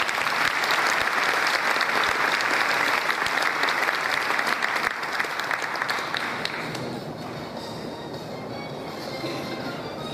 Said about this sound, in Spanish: Pido por favor un aplauso grande al rabino Tzvi Ruplat.